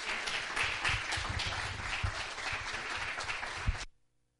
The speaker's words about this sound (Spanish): Un aplauso para ellos.